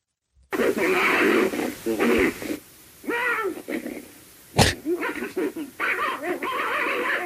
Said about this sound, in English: That sounds like a good dog fight. I was about to say it sounds like a dog.